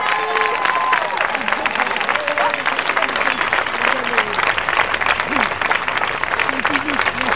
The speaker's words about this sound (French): Vous pouvez les applaudir très très très très fort.